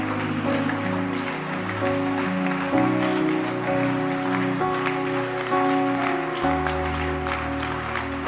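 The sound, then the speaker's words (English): An audience claps continuously during a sermon in a dense, steady patter, mixed with loud sustained music chords that shift pitch every second or so, with no talking. “Keep clapping.”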